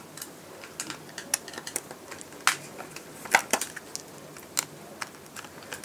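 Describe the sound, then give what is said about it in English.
Cassette tapes, some with small metal pins, being taken apart by hand on a Sunday afternoon: a scattered run of small plastic clicks, snaps and rattles at an uneven pace, with a few sharper cracks standing out. No one speaks. “I think with the dishwasher and the children playing Minecraft, this is kind of like a typical Sunday afternoon, and apart from the whole dismantling cassettes thing.”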